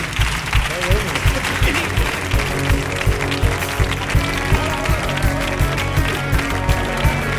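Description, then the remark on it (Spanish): Loud, steady applause from a TV show audience at the end of the programme, dense and continuous for several seconds, mixed with a rhythmic thumping beat and some background music. “Fuerte el aplauso para Chipi y los demás.”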